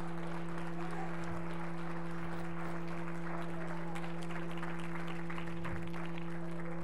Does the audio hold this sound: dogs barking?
no